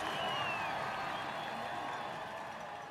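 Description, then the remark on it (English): A dense, loud crowd of fans of all ages roars steadily, with shrill screams and cheers rising through the din, as people mob a convertible in a convoy down a street during Simpsons Bartmania, continuous for the whole stretch. “The police quickly clear a path for Rob Cohen and the dancers to escape, but the screams of the crowd follow the convoy down the street.”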